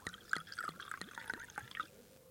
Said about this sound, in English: let's pour the wine